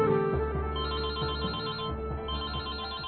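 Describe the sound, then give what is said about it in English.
In a story scene at Chuck's apartment, Clint's cell phone rings with a call from Heidi while he talks with Dara; the ringtone plays steadily for about three seconds, a bright, tonal electronic ring with a repeating pattern and no voices over it. “story begins at Chuck's apartment, where Clint is talking with Dara when his cell phone rings.”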